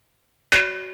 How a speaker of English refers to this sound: Gong.